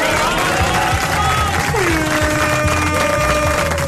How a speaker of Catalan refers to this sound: ja poden també felicitar, bueno, aplaudir a tu.